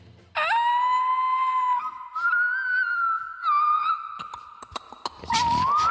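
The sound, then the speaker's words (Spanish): A person's voice imitates a whale call: one long, loud, high moaning tone that slowly rises in pitch, with brief wavers and clicks, ending in a rough, breathy burst. “¿La de mi ballena?”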